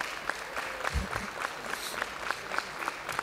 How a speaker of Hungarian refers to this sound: Tapsoljátok meg kérlek szépen sztár vendégeinket.